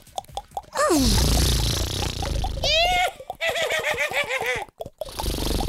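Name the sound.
horse neighing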